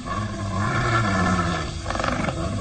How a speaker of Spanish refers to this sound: Se escucha amenazador el gruñido de la fiera asesina, y el hombre increíble sabe que ha llegado el momento de enfrentarse al peligro para descifrar el enigma.